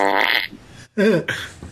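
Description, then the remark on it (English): A voice imitates fart noises, blowing three loud, buzzy raspberries in quick succession, the first long and sputtering, the next two shorter, with no speech. “do you need farting noises in that voiceover thing?”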